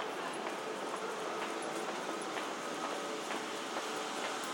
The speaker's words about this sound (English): I might be about to do the same, actually, as I fear this is going to be a busy train. Come on, Vance, on we go.